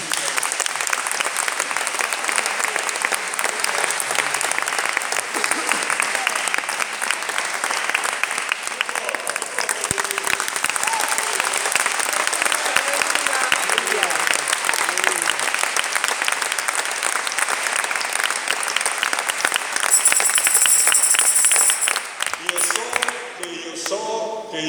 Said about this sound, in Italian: Facciamo un bel applauso al Signore.